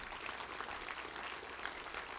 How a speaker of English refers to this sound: Everybody, give the Lord a good clap off this one. Isn't that great?